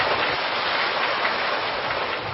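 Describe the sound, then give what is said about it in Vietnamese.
An audience applauds in a dense, steady wash of many clapping hands, crackling evenly for a couple of seconds with no voices over it. “xin quý vị cho một tràng pháo tay thật lớn cùng đến với chương trình Ánh Sáng Phật Pháp.”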